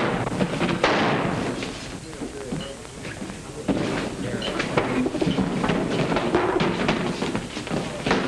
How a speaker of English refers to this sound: Who got it? The shots came from the back door.